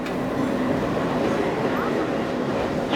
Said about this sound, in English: Train number 16306, Kannur-Ernakulam Intercity Express has arrived on Calicut Station, platform number 1.